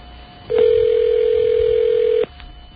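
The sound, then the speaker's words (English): A single steady telephone line tone sounds for under two seconds over a faint, hissy phone-line background while an outgoing call is placed, then cuts off abruptly. It is loud, with no one talking. “See, it's a real experience making phone calls on this phone system.”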